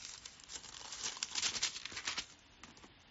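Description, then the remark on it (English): Thin Bible pages are flipped while turning to John 14:27. A quick run of soft, crinkly paper rustles swells in the middle and then tapers off, with no one speaking. “And if the Lord says, I believe it's in John 14:27. I'm going to turn there, because this is key to our walk with Christ.”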